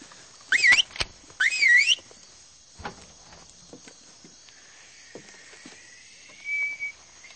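A person whistles as a signal: two short, warbling whistle bursts in quick succession, then a pause and a longer, steady whistled note, with faint clicks and rustles between them and no talking.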